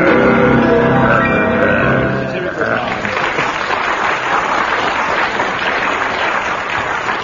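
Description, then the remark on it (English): An audience breaks into loud, sustained applause after a brief burst of voices, the dense clapping continuing steadily to the end. “Well, judging from that applause, we'll give you, what, 6 marks?”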